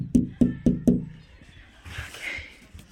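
Four sharp, evenly spaced knocks on a door by a child, heavy and thudding, land in quick succession, followed by a stretch of quieter muffled background noise.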